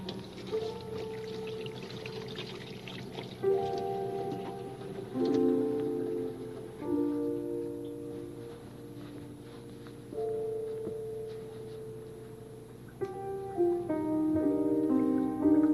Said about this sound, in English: Just water the plant a little.